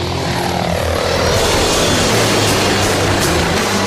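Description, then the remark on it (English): A Comanche military helicopter roars loudly overhead during a test flight at a helicopter test flight facility in West Palm Beach, a dense rushing engine noise over a low, throbbing rotor drone whose pitch shifts slightly as it passes. No voices are heard. “And really just here to get some ideas, do a little research, and really see the thing fly.”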